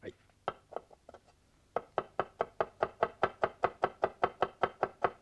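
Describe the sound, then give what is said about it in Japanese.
A knife chops food on a board in a fast, steady rhythm of sharp, loud thuds, about twenty in a row, after a few softer, irregular cuts at the start. “これこれ、一枚の鷹を何回切るの。 物価高だからね、朝昼晩と分けて食べなくちゃ。”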